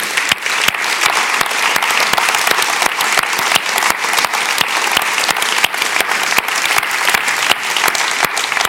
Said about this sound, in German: Ich möchte euch Danke sagen für das und wir geben mal all denen jetzt einen riesen Applaus. Danke euch viel mal.